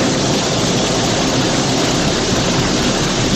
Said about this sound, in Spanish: Esta es el sonido de la lluvia al precipitar lluvias fuertes. Por tanto, muchísima precaución en las próximas horas.